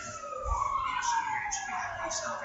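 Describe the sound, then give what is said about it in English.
A real-life emergency vehicle siren, not from the TV show, wails outside as it passes by, its pitch sliding steadily downward over a couple of seconds, heard through room noise with faint murmuring voices. “Sirens are real-life sirens.”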